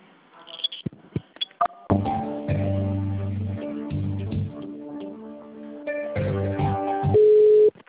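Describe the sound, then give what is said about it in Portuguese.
A telephone line tone while a call is being transferred to another person's phone: a few sharp clicks, then loud, steady buzzing tones in several held segments with brief breaks, ending on a single higher pure tone. No one speaks. “Tá, só um minutinho que eu transfiro aqui pro telefone dele, tá?”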